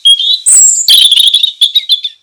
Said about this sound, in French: La nuit tombe et laisse place au jour qui se lève avec les chants d'oiseaux.